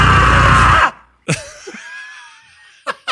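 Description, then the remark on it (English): A loud, raw scream by Bruce Campbell, recorded in a sound booth, blares for just under a second and then cuts off dead mid-yell, followed by a brief silence, faint whistling tones and a couple of sharp knocks. “What I love about that is literally him in a sound booth stopping the yell and them just using it with the stop in it.”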